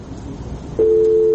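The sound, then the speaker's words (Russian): A steady electronic telephone tone starts abruptly after a brief stretch of low line noise and holds loud and unbroken to the end, like the busy signal after a call drops, as a phone caller from Ulyanovsk disconnects. “Ульяновск у нас отключился.”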